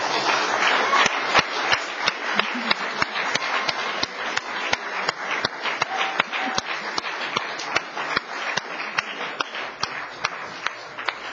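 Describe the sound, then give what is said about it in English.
An audience applauds steadily for about eleven seconds, a dense, even wash of many hands clapping with sharp individual claps popping through, holding a fairly constant loudness throughout. “And I personally have tremendous admiration for the two of them, and I really think they deserve a round of applause.”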